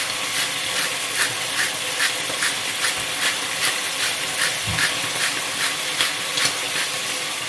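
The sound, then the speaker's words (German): About a quarter litre of water is poured into a hot pan of browned beef roulades with an onion, on a stove at full heat, setting off a loud, steady sizzling hiss with rapid crackling pops pulsing through it the whole time and no voices. “Dann kommt eine Zwiebel drauf. Und ungefähr ein Viertel Liter Wasser.”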